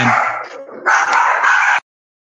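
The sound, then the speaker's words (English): A pet dog barks loudly in a quick, run-together burst lasting under two seconds, growing louder partway through before stopping abruptly. No one speaks. “And we interrupt this program with a barking dog.”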